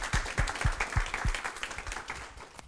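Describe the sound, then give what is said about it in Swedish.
An audience applauds a presentation with steady overlapping handclaps, a few strong low thumps standing out early before the clapping thins and fades over a couple of seconds. “Eller ska vi ge en applåd till den fina presentationen?”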